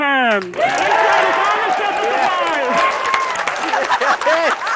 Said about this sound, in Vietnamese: Các tràng vỗ tay và hoan hô vang dội tại phòng thí nghiệm sức đẩy phản lực của Cơ quan Hàng không và Không gian Hoa Kỳ, tức NASA, tại Mỹ, đối với một thành tựu lớn nhất của tổ chức này trong những năm vừa qua.